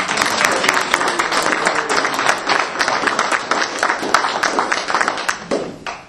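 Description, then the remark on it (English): A crowd applauds steadily for three ninth-grade girls from Winona Senior High School who are about to speak, many hands clapping in a dense, continuous patter at an even loudness for several seconds, tapering off at the end. “So first, let's clap for them to relax them.”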